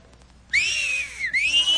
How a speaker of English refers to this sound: Listen to her whistle.